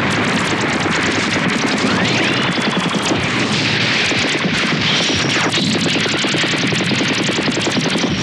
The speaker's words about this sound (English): Let's use the super cannon. Fire!